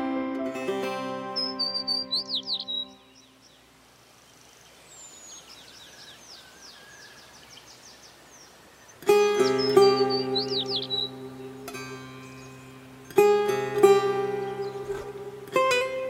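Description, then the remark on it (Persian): Sparrows chirp in quick, high twittering bursts, scattered through a gentle backdrop of rustling ambience, with warm instrumental music swelling in at the start and again in the second half. “میاد باد بهار از راه هوهو میکشه، گهگاه گنجشکا میخونن با چیک چیک نافتو.”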